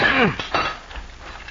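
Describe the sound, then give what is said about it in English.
Metal clanking as a sledgehammer and crowbar are used to rip a couple of rails from a railroad right-of-way: a ringing, bright strike with a bending metallic tone, then a second sharper clank, fading into quiet. “Opposed to Cisco, as a rule, were such men as Link McCann and Doc Moran, who, as our story opens, are at work with sledge and crowbar ripping a couple of rails from the railroad right-of-way.”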